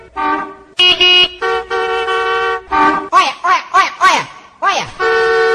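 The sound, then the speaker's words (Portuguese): Loud vehicle horn blasts: a few long sustained honks, then a rapid series of short warbling toots, ending with another long blare, all dominant. “Cuidado, você é do outro lado. Quando for buzinar. Buzinão é 12.”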